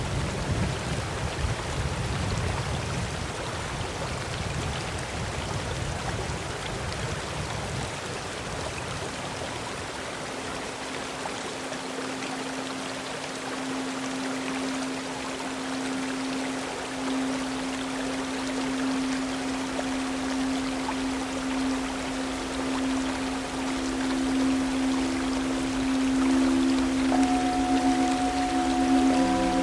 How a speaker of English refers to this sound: The only thing I can hear right now, the only sound I can hear right now is the sound of a waterfall and the river that it runs into.